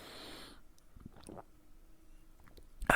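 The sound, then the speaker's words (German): A quick sip of water: a short breathy rush, then quiet wet mouth noises and a soft swallow, ending with a brief louder burst. No one speaks. “Ich nehme noch mal ganz kurz einen Schluck Wasser.”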